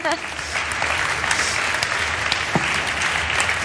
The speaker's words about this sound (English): You know, like, yeah, you can applaud as much as you guys want.